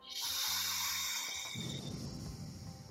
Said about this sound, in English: Keep the palms on your dog and just breathe into your body. And exhale through the nose all the way out. And maybe your dog will respond to your breathing, the sound of the breath.